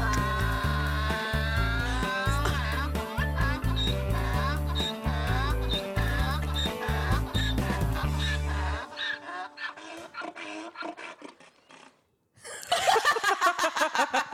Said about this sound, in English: I can't even with those sound effects, though. They're so funny. The donkey. He just keeps braying.